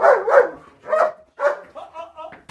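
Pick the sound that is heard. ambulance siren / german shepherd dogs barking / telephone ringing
german shepherd dogs barking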